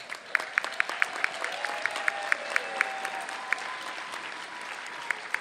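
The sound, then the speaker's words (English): A crowd applauds the staffs of NFB centers steadily, a dense wash of clapping with a few sharper, louder claps popping out at a brisk, uneven rhythm. A faint murmur of voices sits underneath. “Our centers have the best staffs in the world, and we applaud them.”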